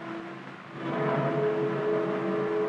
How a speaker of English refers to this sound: Ladle cars arrive in the midst of a heavy rain.